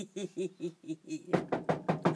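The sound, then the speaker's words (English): A series of about ten quick knocks on a door, the first five light and evenly spaced, then a louder, heavier run of rapid pounding, with no talking. “Oh, fuck! Somebody's at the door!”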